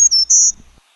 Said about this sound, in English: Our next warbler is our black-throated green, and we're going to hear two songs. The first one, zee zee zee zoo zee.